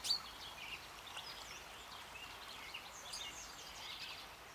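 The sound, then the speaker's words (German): Several birds chirp and sing outdoors, heard from the terrace of a house, their high, overlapping calls scattered across a soft, steady background hush. No one speaks. “Und somit bringe ich den jungen Menschen auch noch die schönen Klänge der Natur, der Vögel und des Bachs hinter meinem Haus in ihre Wohnzimmer.”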